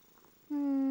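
Halfway through, a kitten's purr switches on and holds loud and steady to the end, with nothing else sounding but a faint hush before it starts.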